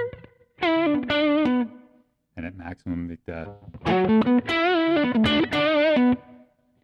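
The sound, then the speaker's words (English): Thick, fat distorted instrument tones from a distortion effect, its saturation knob turned up to blend in more bypass signal, ring out in sustained, harmonically rich notes, pausing briefly while a man speaks a few words, then returning loud. “So as I turn that up, we'll get a little more bypass. Definitely fat. It's a different kind of distortion.”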